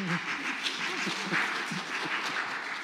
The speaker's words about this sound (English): They're clapping because you're sitting down. That's what it is.